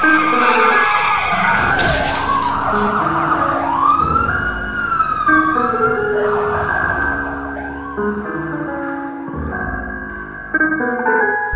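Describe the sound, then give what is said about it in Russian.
A police car siren wails loudly in repeated rising and falling sweeps, layered over a steady musical backing with no voices. “Вроде оторвали гуру, но вдруг сирены ослепили и глаза. Вазик на хвосте, жми на газ”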